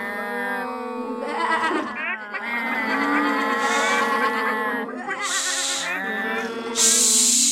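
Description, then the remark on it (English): Loud farm animal calls overlap continuously: drawn-out, tonal cow moos mixed with higher sheep bleating, several voices rising and falling without pause. “Stop mooing so loudly.”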